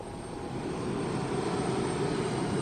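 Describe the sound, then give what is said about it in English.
A steady airplane engine drone, a constant low rumble with a broad hiss above it, unchanging and continuous throughout with no voices. A Russian plane flying to the North Pole over fractured Arctic ice. “I'm getting ready to get on a Russian plane headed for the North Pole.”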